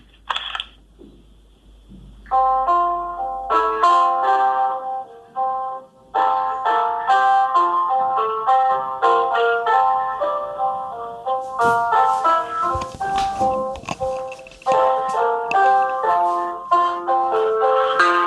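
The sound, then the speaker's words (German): A piano melody played live without sheet music, with a steady flow of clear notes and chords in a moderate range. It starts after a brief quiet moment and continues at even loudness, with no talking. “Ich habe ein Klavier doch hier, das weißt du nicht.”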